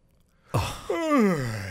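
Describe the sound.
A voice imitates a loud, drawn-out yawn, mimicking a man yawning loudly in a courtroom before a judge: a breathy intake, then a long voiced moan that rises and slowly sinks, alone after a moment of silence.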